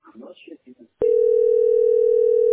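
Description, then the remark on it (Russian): A brief stretch of talking gives way to a loud, steady telephone dial tone, a single unbroken mid-pitched hum that holds without pause until the end. “Гудок.”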